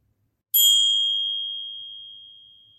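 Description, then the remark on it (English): A single soft meditation bell strike, sounded to begin a meditation practice, rings out with a clear, pure tone that lingers and slowly fades over a couple of seconds, heard alone without any talking. “I will begin our practice by sounding a soft bell, and I will end our practice by sounding a soft bell.”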